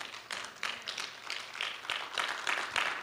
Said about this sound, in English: I appreciate the golf claps. That just makes me feel so good. That was sarcasm, if you couldn't tell.